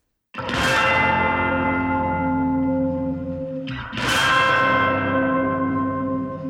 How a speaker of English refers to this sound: Yeah, tubular bells. Yeah. But we did like a glissando with the sticks on the side of the tubular bells.